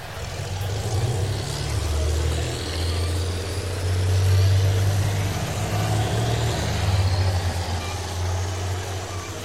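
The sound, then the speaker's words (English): The heavy engine of a tank, an armored vehicle on caterpillar tracks on the Philadelphia Road, rumbles steadily at a low pitch, its deep drone swelling and easing slightly over several seconds, with a faint rough texture above it and no speech. “The sound of the engine and the cloud of dust came from the west”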